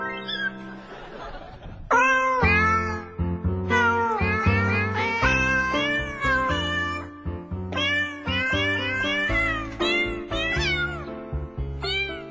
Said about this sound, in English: All those little jingle cats, they sound like my Buzzy.